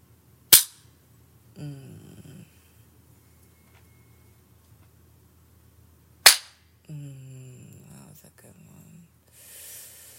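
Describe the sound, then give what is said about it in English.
Two sharp, loud hand slaps on a person's own buttocks, first rubbed to warm them up, land about six seconds apart, each crack immediately followed by a short voiced exclamation. “I rub my ass a little bit first. Warm it up for a nice slap.”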